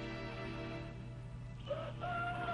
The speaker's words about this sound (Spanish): El lejano canto de un gallo saca de su sueño a la atractiva muchacha, que permanece quieta en el blando lecho.